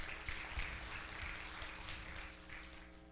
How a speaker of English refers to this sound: It was almost like a golfer clap. I don't even know what to take from that.